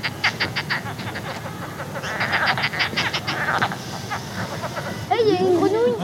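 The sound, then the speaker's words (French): A small brown frog croaks in a rapid series of rasping pulses for several seconds, steady, followed by a brief human voice near the end. “On a une grenouille.”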